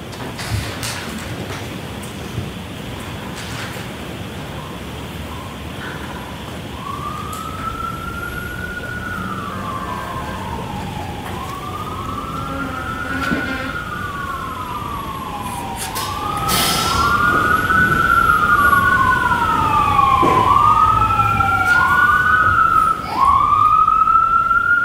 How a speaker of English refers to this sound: If you could wait, Mr. Wolk, until the sirens pass.